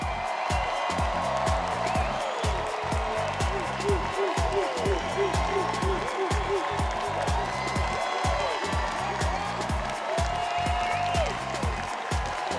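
crowd, audience standing and applauding

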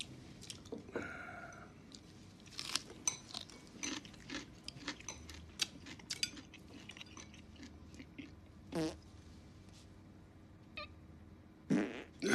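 human body sound, fart

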